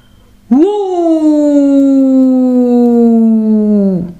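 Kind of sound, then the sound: animal, wolf howling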